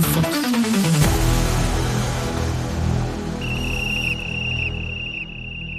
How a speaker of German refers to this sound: Die Pfeife hat ertönt. So rum. Wir haben sie gehört. Das ist unser Startzeichen für eine neue Folge